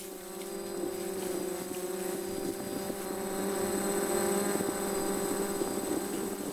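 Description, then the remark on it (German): A small postal delivery drone carrying a bottle of shampoo hums steadily with a whirring, multi-toned rotor buzz that grows slightly louder as it approaches, continuous throughout with no voices. “Wow, die Drohne hat ja mein Lieblingsshampoo dabei.”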